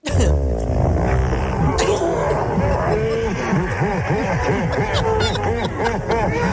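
A slowed-down fart stretches into a long, loud, low droning rumble, its pitch wobbling and bending for several seconds, with rough, sputtering pulses running through it.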